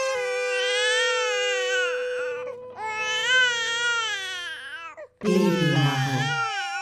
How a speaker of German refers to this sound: Meine Milchdrüsen wollen nicht so. Das Kind schreit nur noch.